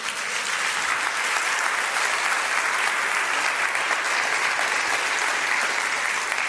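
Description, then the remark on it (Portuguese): An audience applauds the Lord steadily, a dense, continuous wash of clapping that holds at an even, fairly loud level for several seconds with no speech over it. “Aplauda ao Senhor.”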